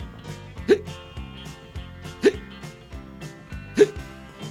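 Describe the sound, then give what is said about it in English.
Three sharp, evenly spaced hiccups pop out over a steady bed of background music, each one a quick, loud gulp about a second and a half apart. “All at once, I started hiccuping.”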